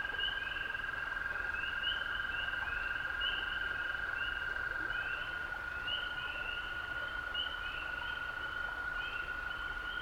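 A dense chorus of male toads trilling their love songs continuously in a hollow, one long steady high-pitched trill layered with overlapping repeated calls, forming an unbroken wall of sound with a low rumbling background and no talking.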